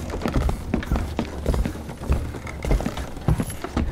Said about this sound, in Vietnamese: Giày của Trương Giang Hổ gõ lợp cợp trên sàn tàu.